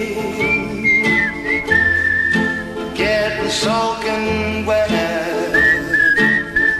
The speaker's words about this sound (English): You gotta love some whistling in your music. I think every song should have some kind of whistling in it. I would agree.